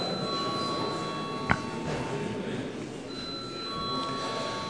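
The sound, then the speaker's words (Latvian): A steady electronic bell tone rings continuously in the Latvian parliament (Saeima), calling deputies to a vote on a bill, with a faint murmur of room noise and one sharp click partway through. “Lūdzu, zvanu.”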